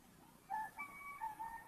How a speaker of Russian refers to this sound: О, петухи у вас там, кукарек. Отлично. Хороший знак.